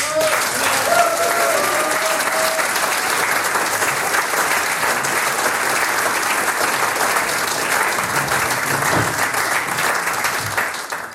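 Sustained audience applause for visiting musical guests, a dense steady wash of clapping lasting over ten seconds, with a few faint cheers or whistles near the start and a slight fade at the end.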